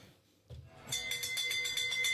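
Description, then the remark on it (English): Bells ring rapidly and continuously after a brief quiet lead-in, a bright metallic clatter of fast repeated strikes, loud, like an old-fashioned alarm bell. “It's that sounds like an old-style fire engine, that noise.”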